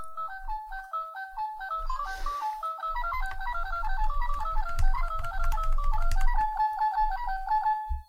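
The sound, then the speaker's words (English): A quick solo on a Chinese toy piano with only one octave and black keys that don't play: bright, tinny notes hopping up and down within a narrow range, with dull low thumps underneath through the middle, ending on a sustained note. “You like that solo? It only has one octave, and you can't play the black keys on it”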